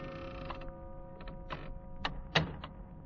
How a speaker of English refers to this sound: It was long after midnight when my office door slowly opened.